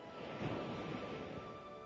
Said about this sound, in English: Also, you may listen to the waves and feel the calmness that it brings by going in and out.